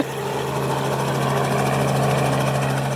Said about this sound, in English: The sound of helicopter blades filled the air while rescue boats cruised on the floodwaters below.